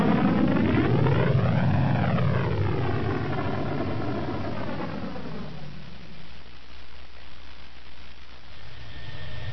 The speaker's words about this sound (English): he hit the button to fire up the one main engine that was still functioning. Slave One shuddered, its hull threatening to tear loose from the battered structural frame beneath as the engine's convulsive thrust blurred the stars in the viewport.